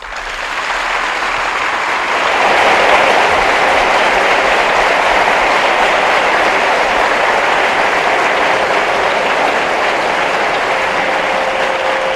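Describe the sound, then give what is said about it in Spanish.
A large audience in the nearly packed Sala Pereda breaks into loud, dense applause for the news services of Radio Nacional de España, swelling within the first two seconds and holding steady as a thick, continuous wash of clapping for about twelve seconds, with no voices. “Yo, como hacemos otra vez, muchas veces, queremos que todas las personas que han venido os dediquen a los servicios informativos de Radio Nacional de España este calurosísimo aplauso.”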